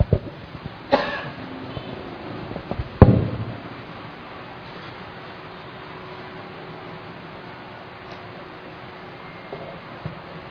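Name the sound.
coughing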